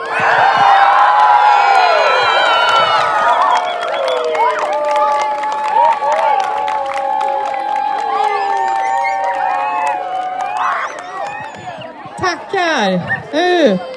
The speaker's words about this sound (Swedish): Oj, vilket jubel det blev när ni hade grävt de här första spadtagen.